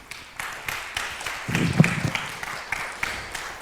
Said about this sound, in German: Vielen Dank. Einen Applaus.